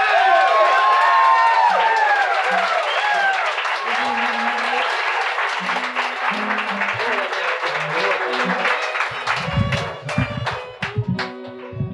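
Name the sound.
audience applause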